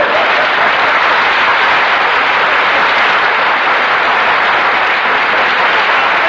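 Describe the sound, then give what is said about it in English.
Loud, sustained applause from a large audience, a dense wash of clapping hands that holds steady for several seconds without any voices breaking through. “Don't applaud, please. If you like it, just nod.”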